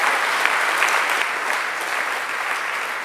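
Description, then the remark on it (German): Steady applause from an audience for the staff who work at the Michelsberg house in summer fills the whole stretch, a dense wash of many hands clapping at even loudness with no pause or voices on top. “Ein Applaus für euch, klasse.”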